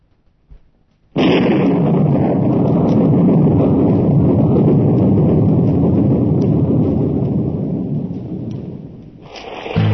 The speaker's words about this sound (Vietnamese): À, mưa to quá.